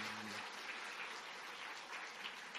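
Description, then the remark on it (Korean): A church audience applauds steadily to welcome three new families, dense overlapping clapping for a few seconds, with a faint low hum at the very start. “우리 박수로 환영하겠습니다.”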